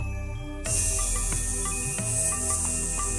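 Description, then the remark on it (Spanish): A person makes a long, steady hiss through their teeth, imitating a snake while doing the yoga cobra pose, lying on the tummy and lifting head and shoulders off the ground, over soft background music with light tinkling notes. “Lift your head and shoulders off the ground and hiss.”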